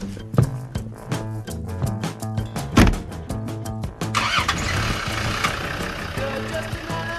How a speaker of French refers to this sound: À terme, le zoo de Thoiry entend faire taire les grondements des moteurs des voitures, des visiteurs, pour laisser plus de place à ceux des grands fauves.